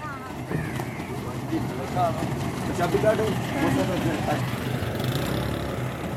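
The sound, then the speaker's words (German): A truck carrying a team of 60 bearded men from an Islamic aid organization pulls up in a village in Pakistan one morning, its engine rumbling steadily and idling with a low, continuous drone, while indistinct voices murmur faintly. “fährt an diesem Morgen ein Lastwagen mit einem Team von 60 bärtigen Männern vor.”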